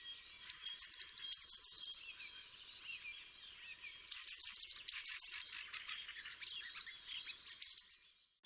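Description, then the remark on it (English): A blue tit calls in quick bursts of high, thin, repeated notes, two clusters separated by a short pause, with softer twittering trailing off at the end. Clear, no voices. “Blue tits feed mostly on seeds and insects, especially caterpillars.”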